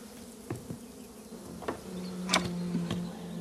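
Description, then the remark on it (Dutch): Several bees buzz around a large brown pot just opened beside a beehive on a wooden table, their droning hum rising and falling as they fly around, with a few sharp clicks and knocks scattered through the steady buzz. “Onmiddellijk zwermen er een paar bijen rond de pot.”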